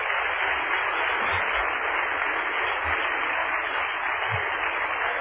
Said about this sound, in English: Let's clap our hands and praise Him one more time.